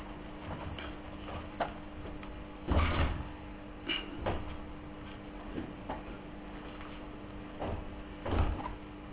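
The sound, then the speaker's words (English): A door is pushed shut with a dull thud at the start of a meeting, followed later by another heavy knock and a few scattered clicks and rattles amid a quiet hum. “Can we close that door and then we proceed with our meeting?”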